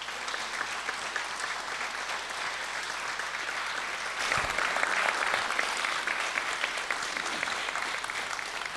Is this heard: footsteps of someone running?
no